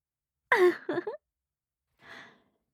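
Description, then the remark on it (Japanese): Heavy, breathy panting through the mouth with the tongue stuck out: a loud voiced exhale with a quick follow-up breath, a short pause, then one softer airy pant. No words are spoken. “ベロ出しながら、はあはあ吐息漏らして、最高にダサいですよ。”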